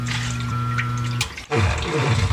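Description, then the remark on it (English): Water gushes and rushes loudly and steadily, flooding a basement, with a low droning hum beneath it at first, then a brief dip before the torrent surges back even fuller. “Heavy rain and rising groundwater can turn your basement into a disaster zone overnight.”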